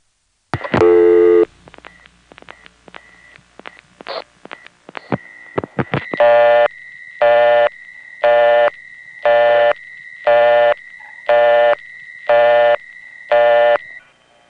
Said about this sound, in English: But of course, not all intercept recordings are hooked up exactly right. That was the situation in City Island. Here's what would happen if you dialed a local call there without a dime in.